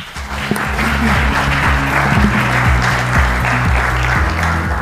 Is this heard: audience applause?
yes